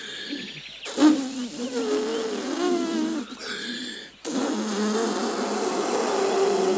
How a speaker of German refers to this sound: Und nun, passt auf, nehme ich diesen Blecheimer und diesen blauen Luftballon. Und nun, Konzentration, ich blase den Luftballon auf.